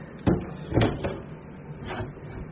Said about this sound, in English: Shut the door, please.